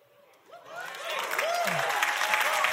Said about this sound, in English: That's about the right amount of applause. Somewhere between pity and celebration. That's how I feel.